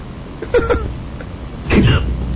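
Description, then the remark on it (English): A voice imitates hiccups: two quick, clipped vocal 'hic' bursts, then a longer, lower, drawn-out one after a short pause, over steady low background hum. “Oh, my God, that's the worst hiccup I have ever heard.”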